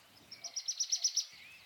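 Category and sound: bird, birds tweeting softly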